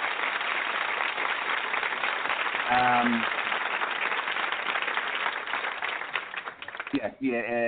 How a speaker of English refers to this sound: Big round of applause. First Lady joining.